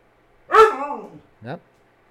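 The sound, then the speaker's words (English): A dog barks insistently, wanting a walk or food: one long, drawn-out, whiny bark that slides downward in pitch, then a short, sharp second bark, with quiet around them. “You're a demanding dog, but I'm in charge here.”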